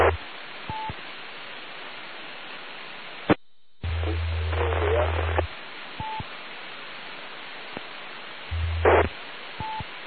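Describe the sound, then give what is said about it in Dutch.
Steady radio static hisses throughout, broken by a brief dropout, a few short beeps and low humming bursts. A very distant station calling in during an on-air round is buried faintly in the noise and impossible to make out. “Ik krijg wel wat mee, maar ik kan het helaas niet verstaan. Hè. Dus heel in de verte.”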